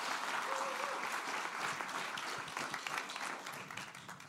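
A church service audience applauds a man called forward, dense overlapping claps filling the whole stretch at a strong level, tapering slightly toward the end with a few individual claps standing out.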